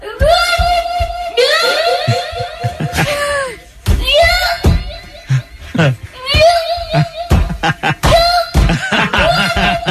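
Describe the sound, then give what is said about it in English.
A toddler yells loudly and repeatedly into a microphone in sustained, strained bursts while performing and dancing on a flat raised bump-out, with sharp thumping stomps and knocks punctuating the shouting throughout. “So not only is he screaming into this microphone, but he's stomping and like dancing.”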